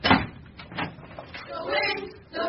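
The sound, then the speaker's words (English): A door opens with a quick clunk at the start, followed by muffled voices and faint movement. “Open the bloody door.”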